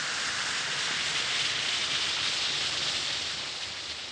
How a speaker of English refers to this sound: You drop one or two tablets of Speedy Alka-Seltzer into a glass of water, like this. Listen to it fizz.